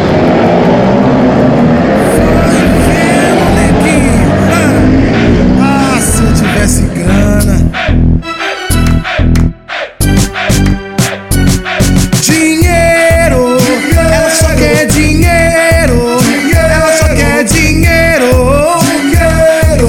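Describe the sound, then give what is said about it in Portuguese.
A loud motorcycle engine runs, its pitch rising and falling as it revs, followed by a choppy stretch of sharp bursts and sustained mechanical tones. “Aí, gatinho, quer dar um rolê de moto?”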